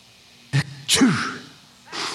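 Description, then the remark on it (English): A voice imitates a boy sneezing in a retelling of the Bible story of Elijah: a sharp intake burst, then a loud explosive "choo" with a falling tone, followed by a softer breathy exhale, clear. “The boy was sneezing because Elijah's got a big old burly beard stuck up in his nose.”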